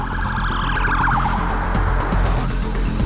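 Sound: ambulance siren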